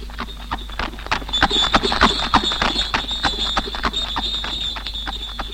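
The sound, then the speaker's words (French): Rapid, irregular hoofbeats of a horse-drawn tilbury carriage arriving, carrying the Marquis Patrice de Puy-Tiréjol, clatter steadily, with a sustained high metallic ringing tone running above them and a low rumble underneath. “Tiens, monsieur le marquis Patrice de Puy-Tiréjol qui arrive dans son tilbury.”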